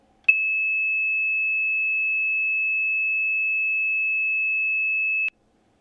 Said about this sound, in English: And what you will hear coming down your phone line in just a second is 2600 hertz.